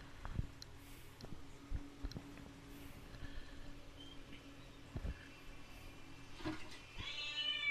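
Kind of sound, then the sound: animal, cat meowing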